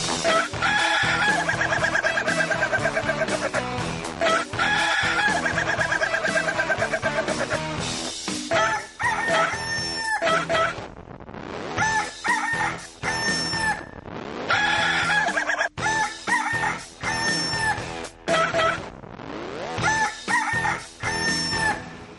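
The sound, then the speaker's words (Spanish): A rooster crows loudly again and again at six o'clock on a Monday morning, its drawn-out calls repeating over about twenty seconds with only brief breaks, dominant with no talking. “Ahí está este gallo para iniciar la semana.”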